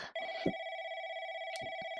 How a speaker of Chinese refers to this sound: 哎，有人打电话来了，你快接吧。